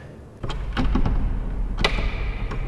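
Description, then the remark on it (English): A heavy, locked, carved wooden door under an inscription reading "Caídos por Dios y por España" in the Chapel of the Sepulchre of a basilica rattles and thumps in its frame as someone tugs at it, a few sharp knocks and a clatter of the latch over a low rumble, with no voices. “It's locked. This is as far as we can go.”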